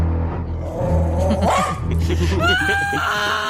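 A dog barks and yelps several times in quick, excited bursts, loud, over a steady low droning hum in the background.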